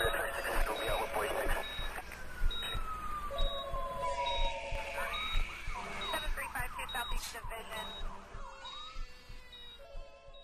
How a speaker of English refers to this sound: The phones are ringing, pagers are beeping, alarms are alarming, and the thought process is interrupted and mistakes happen.